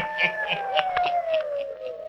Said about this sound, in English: Listen in again next week for my hounds howling.